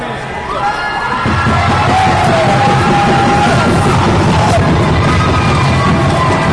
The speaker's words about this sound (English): when unexpectedly, several dozen people rush their way into the building from the State Street entrance.